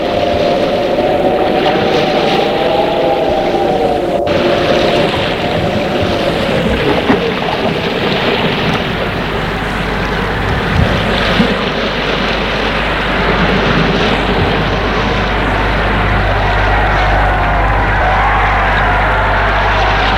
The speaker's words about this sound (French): Le garde lui dit, roi, le vent est levé.